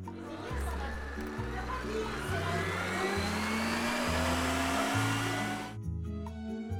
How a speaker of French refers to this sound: Un petit coup de mixeur.